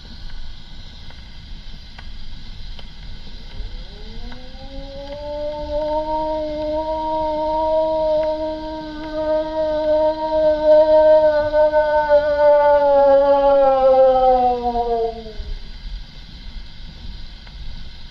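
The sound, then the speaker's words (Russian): A single long, wolf-like howl rises, holds a steady pitch for about ten seconds and then trails off, clear over a low rumbling background with no talking. “Обычно после 3-й подвывки волки уже отзываются.”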